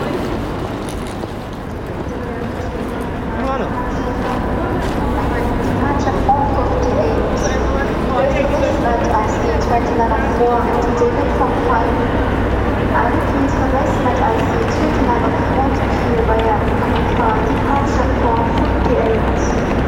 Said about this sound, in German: Hauptbahnhof in Frankfurt. Hier ist Endstation. Man kommt an und will gleich weiter. Viele Menschen hasten durch die Halle, manche mit großen Koffern oder Rucksäcken im Expeditionsformat, andere im Anzug